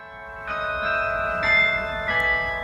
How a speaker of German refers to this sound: Wenn das Glockenspiel der Parochialkirche zu hören ist, entsteht im Klosterviertel von Berlin gleich hinter dem Roten Rathaus ein Altstadtgefühl, jenseits autobahnartiger Pisten und hinter den Betonhochhäusern des Alexanderplatzes.